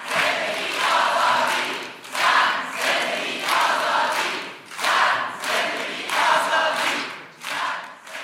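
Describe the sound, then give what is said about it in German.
An audience at the Berliner Ensemble in Berlin chants the Iranian protest slogan "Woman, Life, Freedom" in Farsi in unison, loud rhythmic shouted phrases repeating about every second and a half, with no other sounds between the chants. “erklingen sie auch im Publikum. Die Revolutionsrufe auf Farsi.”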